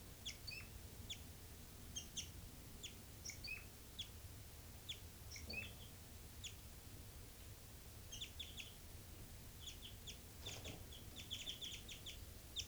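Birds give night flight calls: short, high, thin chirps in scattered bursts, thickening toward the end, fairly faint over a steady low rumble.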